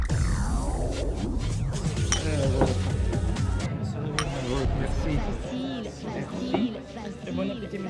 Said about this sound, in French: Ah, il faut, là, on s'interrompt pour trinquer.